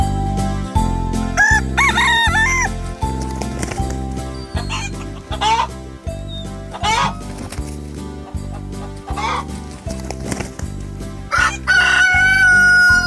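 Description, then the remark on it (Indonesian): A healthy, plump pet rooster crows several times, its harmonic calls rising and falling over a steady, loud rhythmic music backing that continues throughout. “ayam jago dan ayam betina peliharaan Andi adalah ayam yang sehat, gemuk, dan lincah”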